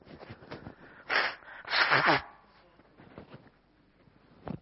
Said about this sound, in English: If someone was listening to this, don't be scared. It's just me blowing my nose.